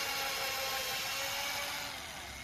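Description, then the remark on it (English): A power drill runs steadily for a couple of seconds, boring holes for bolts in a 2x4 wooden board, its high motor whine and gritty grinding fairly loud with no pauses. “Now help me drill some holes in it so we can place the bolts.”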